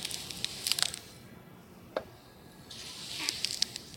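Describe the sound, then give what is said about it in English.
A knife slices scallions with a horizontal, slow, smooth slicing motion rather than chopping, making soft crisp crunching swishes in two stretches separated by a single sharp tick, with no voices. “This is a more horizontal, slow, smooth slicing instead of a chopping.”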